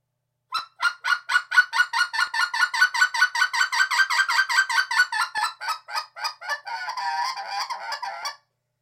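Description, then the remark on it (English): A fowl clucks in a fast, steady run of dozens of loud, nasal syllables, ending in a brief blurred burst of rapid calls. No one speaks. “The back half of the yodel is the same as the cluck syllable.”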